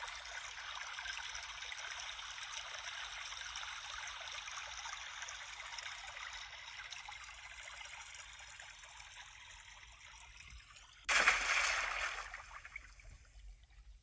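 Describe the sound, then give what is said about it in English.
A steady hiss of rushing water, like a waterfall, runs without pause, then a sudden louder surge of crashing water breaks in near the end. No voices are heard. “Is that a waterfall?”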